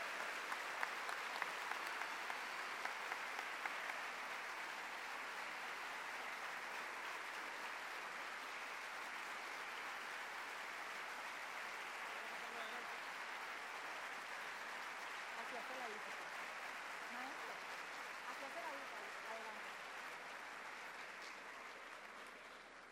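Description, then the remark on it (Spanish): A large crowd claps steadily and loudly to welcome the Nobel-winning writer Mario Vargas Llosa, a dense, unbroken wash of applause lasting over twenty seconds that tapers slightly at the very end, with faint indistinct voices mixed in. “Recibimos, por supuesto, con un fuerte aplauso al gran maestro, nuestro Nobel de Literatura, Mario Vargas Llosa.”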